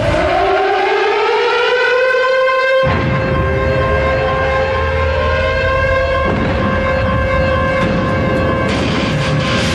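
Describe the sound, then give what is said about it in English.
A loud siren wails with a slowly rising pitch and holds its steady howl throughout, while dense, driving thrash metal music kicks in beneath it after the first few seconds, at the start of a WWF entrance theme song. “You got the siren going off, thrash metal.”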